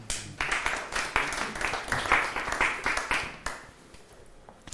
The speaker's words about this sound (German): Amen, Halleluja. Lasst uns Jesus einen Applaus geben.